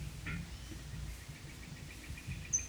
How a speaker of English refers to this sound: The previous bird is assumed to have been a female, possibly the mate of number three.